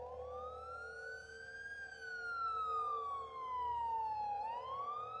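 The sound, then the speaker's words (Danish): Ambulance sirens wail steadily as ambulances arrive at a house in Kalbakken, Norway, on a Sunday evening, the pitch sweeping slowly up and down in a long rising and falling tone, loud, with a low engine rumble underneath. “Ambulancerne begyndte at ankomme.”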